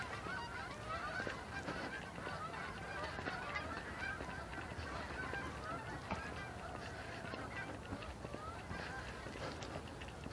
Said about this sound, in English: There. I wondered how long it would be before I got geese overhead.